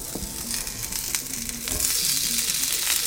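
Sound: sizzling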